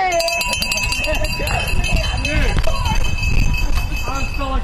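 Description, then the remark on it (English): Finish bells at the finish line of a bike race, by the Bike Sport Radio stand, clang rapidly and continuously, ringing with bright sustained tones over a noisy crowd of cheering, shouting voices. “All right, there's the bells, the finish bell at Bike Sport Radio.”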